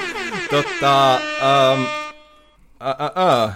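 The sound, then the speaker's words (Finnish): A loud, brassy rap air horn sound effect blares in a rapid series of short blasts, then two longer held honks, a brief pause, and another quick burst of honks. “Pistä tähän joku torvi sitten, joku semmonen diding, tai joku semmonen, tiedät sä, joku... Räppitorvi.”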